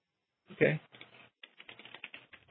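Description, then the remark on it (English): Rapid clicking of computer keys in quick irregular bursts, fairly quiet, with a louder thump near the start and a short pause midway before the typing resumes, as someone types a note documenting a possible error. “Okay, let's document that there's a sort of possible error. I'm typing in right now.”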